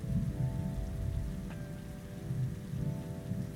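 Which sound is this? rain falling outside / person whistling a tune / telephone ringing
rain falling outside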